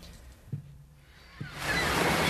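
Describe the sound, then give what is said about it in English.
Ocean waves surge in with a broad, rushing hiss that swells loudly after a quieter, low rumbling start with a couple of soft thuds; no voices are present. “Oh, it's the ocean.”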